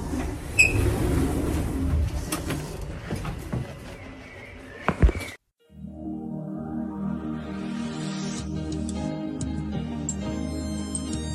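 A door opens with a rattling, mechanical rush of noise, then a brief gap before a steady, droning hum with a rising whine settles in and continues to the end.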